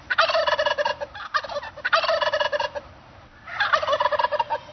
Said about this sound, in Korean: 칠면조 울음소리인데요. 사람들이 깔깔대고 웃는 소리 같죠? 영어로는 gobble gobble. 까불까불 까부는 소리. 칠면조가 까부는 소리 같은데요. 네, 까부는 터키. 네, gobble gobble, G-O-B-B-L 이렇게 표현을 하는군요.